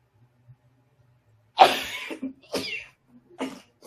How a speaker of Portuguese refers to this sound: Só tosse, espirro e sei lá qual que é, soluço ao mesmo tempo. Tô bem, tá? Só para informar, estou bem. É o primeiro espirro do dia, quer dizer, foram 2, mas tudo bem, tá?